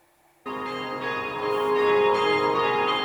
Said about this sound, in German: In ganz Aschaffenburg läuten um 11.45 Uhr die Kirchenglocken. Genau zur selben Zeit, als vor 4 Tagen die Tat geschah.